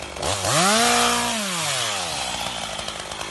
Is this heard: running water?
no